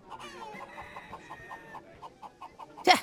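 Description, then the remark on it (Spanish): Chickens cluck in a steady series of short, repeated calls, with higher chirping from chicks overhead, ending in a sudden loud squawk, as a hawk goes after the chicks. “Ahí está el guaraguau detrás de los pollitos.”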